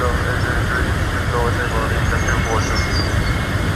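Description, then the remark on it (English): A loud, steady roar of jet planes fills the whole stretch, a dense continuous rumble like aircraft passing overhead, with faint muffled voices buried underneath. “Are those jet planes that you hear in the background?”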